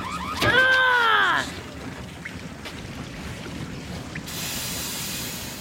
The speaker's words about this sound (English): Look at that water go.